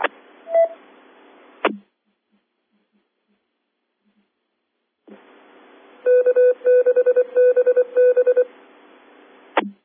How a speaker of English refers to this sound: There's a repeater giving its announcement in Morse code.